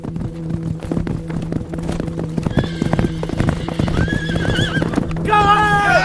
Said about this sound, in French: Il monte, éperonne son cheval jusque dans la plaine et paraît, l'écu dressé contre sa poitrine.